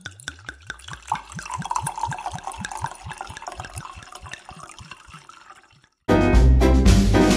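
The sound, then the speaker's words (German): Kalterer Seewein wine glugs steadily from a bottle into a glass, a quick run of rhythmic gulping pulses for several seconds, then a loud burst of music abruptly takes over. “Ich schenke mal ein.”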